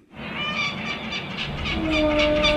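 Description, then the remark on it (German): Seagulls cry out in repeated high, wavering calls above a steady, loud rumble of a ferry's engine and rushing wind, as they accompany the ferry from Istanbul across the Sea of Marmara to the island of Heybeli. “Möwen begleiten die Fähre aus Istanbul über das Marmarameer zur Insel Heybeli.”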